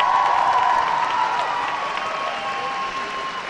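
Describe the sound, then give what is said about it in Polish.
Sustained applause from a large concert audience at the end of the first concert, with cheering and whistles mixed in, a dense continuous wash of clapping that stays loud and steady throughout. “Wybrzmiewają brawa. Pierwszy koncert za nami.”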